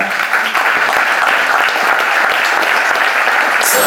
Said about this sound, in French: On peut applaudir Pilou Mokelel.